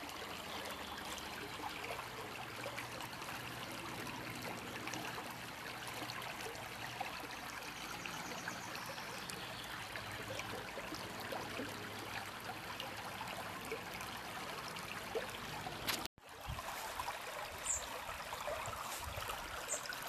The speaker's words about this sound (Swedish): Ni kan fortsätta att lyssna på den här ljuvliga stämningen från Närpeså, Porlet.